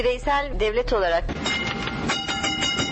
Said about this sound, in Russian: Тарахтит по рельсам старый трамвай, не помнящий своего года рождения.